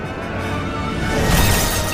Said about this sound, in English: He slams it to the ground, smashing the stone to blue powder. As he does, the mirror breaks apart and the glass shards disappear into darkness.